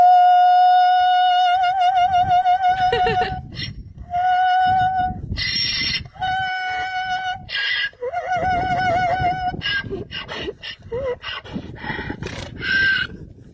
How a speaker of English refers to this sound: And wrapping up Joe's Need to Know News today, have you heard of Harriet, a.k.a. the Opera Donkey?